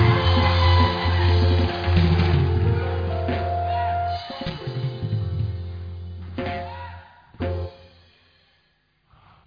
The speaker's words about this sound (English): I want you to shout because your voice is yours and clap your hands and scream.